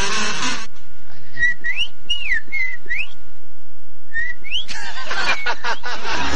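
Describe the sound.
A person whistles an imitation of a bird's song during an animal imitation contest: a run of short rising and falling chirps, a pause, then two more chirps, with bursts of noisy rustle at the start and end.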